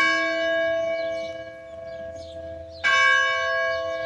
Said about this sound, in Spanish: El tañer de esa campana llama nuestra atención, pues existe un sitio en Cuba que posee un valioso fragmento de la historia mundial.